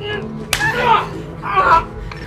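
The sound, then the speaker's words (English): A single sharp slap cracks out near the start, followed by a couple of loud vocal cries and exclamations from people. “Slap you!”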